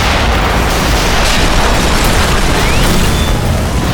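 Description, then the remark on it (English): Heavy tank cannon fire booms as tanks return fire in combat, a loud, dense barrage, the blasts blurring into a continuous roaring rumble with crackling debris and no clear pauses. “I heard the sounds of the tanks returning fire.”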